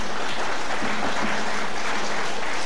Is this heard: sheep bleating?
no